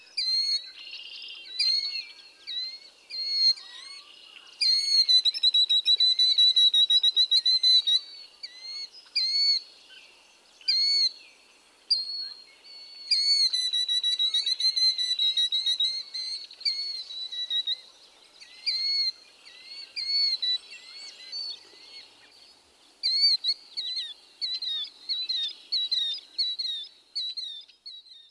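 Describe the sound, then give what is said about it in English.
Killdeer calling repeatedly in shrill, piercing notes, sometimes rapid trilling bursts and sometimes separate sharp cries, loud over nearly half a minute with no talking. “Here are various vocalizations of the killdeer.”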